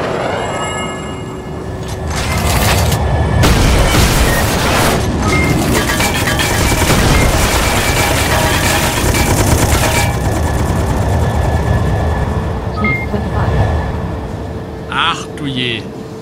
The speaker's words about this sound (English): Das mit dem Maschinengewehr nur?